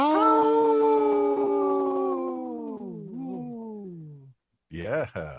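A wolf lets out a long, steady howl that holds its pitch and then slides downward before fading, followed by a brief pause and a shorter, wavering howl, used in a radio sponsor bumper for Howling for Wolves.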